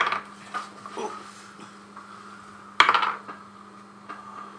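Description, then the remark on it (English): Dice rolled for damage in a game rattle and clatter across a hard tabletop in one sharp burst, with a few lighter clicks before it over a steady low hum. No one speaks. “You still hit the first shot, so roll your damage.”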